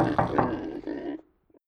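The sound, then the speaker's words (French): A pig named Tortillon grunts and snorts in a quick series of about three throaty bursts lasting a second, followed by silence and a faint brief sound. “Eh non, dit Tortillon le cochon. Il fait si bon ici.”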